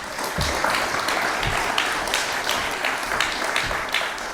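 An audience claps steadily after a talk, a dense wash of many hands at once with a few louder individual claps standing out, sustained at an even level throughout.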